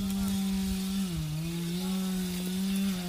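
A chainsaw engine drones steadily as it cuts trees, its buzzing pitch dipping briefly as the load changes, then holding a constant whine, with no voices.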